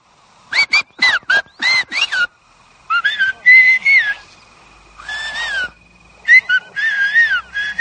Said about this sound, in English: There's a special video about the Chinantec whistling. Let's take a look.